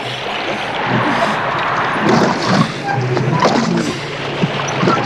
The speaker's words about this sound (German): Doch plötzlich schlug das Wetter um. Es brieste auf und hohe Wellen rollten heran.